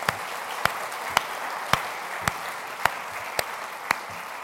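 A church audience applauds, a dense steady patter of many hands with a few sharper, evenly spaced claps standing out about twice a second. No one speaks.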